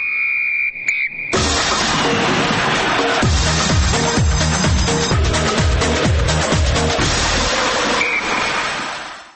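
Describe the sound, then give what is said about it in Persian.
A sustained high-pitched whistle blast opens the sports news segment, then a loud, busy instrumental jingle takes over with a pounding rhythmic bass beat before fading out at the end. “در اینجا سوت ورزش رو میزنیم و میشنویم خبرهای ورزشی رو”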